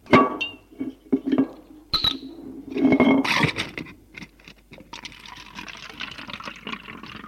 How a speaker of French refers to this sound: Aller au salon, se verser un verre de bourbon.